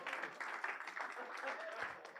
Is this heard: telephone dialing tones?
no